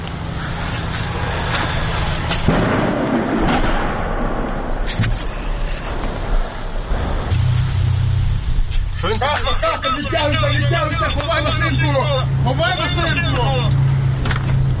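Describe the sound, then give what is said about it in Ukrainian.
A tank engine rumbles steadily in the background during a battle near Bakhmut, Ukraine, a heavy low drone that never lets up, punctuated by a few sharp bursts like gunfire, while voices talk over it partway through. “Я це чуєте, на фоні працює танк.”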